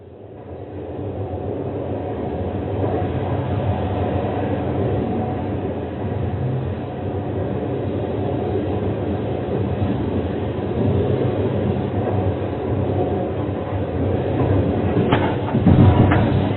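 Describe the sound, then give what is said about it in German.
A passenger train approaching Vienna, its terminus, rolls steadily along the rails, a continuous low rumble with faint rhythmic clatter, growing slightly louder and rougher near the end. No voices are heard. “Wien ist der Endbahnhof unseres Zuges.”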